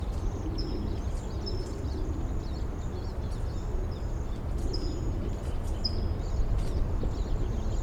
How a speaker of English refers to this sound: Recording, I hear a flock of siskins in the back, perhaps coming this way. This is 5-7.